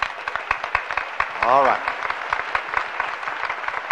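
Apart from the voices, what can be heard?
audience applause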